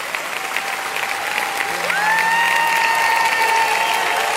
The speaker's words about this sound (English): Y'all are already clapping.